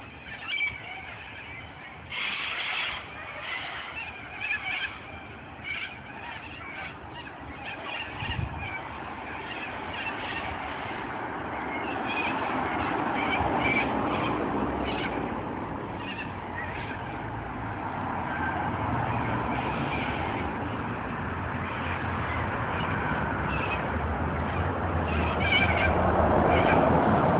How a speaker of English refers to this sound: Hundreds upon hundreds of flights of birds, and these are cockatoos, and they were they sitting up on the wires out there?